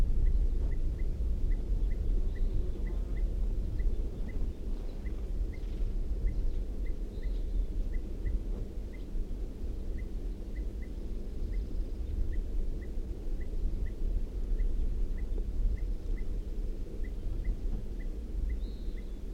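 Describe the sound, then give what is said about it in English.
A female bird gives short, sharp alarm calls repeated at a steady quick rhythm, fairly faint, over a constant low outdoor rumble with no voices. “Alarm calls from the female.”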